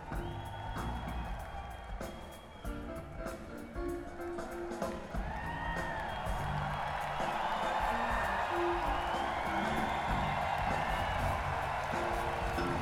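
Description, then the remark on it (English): A crowd at a Halloween costume contest yells and cheers to vote for a costume, with scattered whoops rising above a dense, sustained roar that swells after the first few seconds and stays loud to the end. “Okay, all you got to do is yell if you think it's a good costume.”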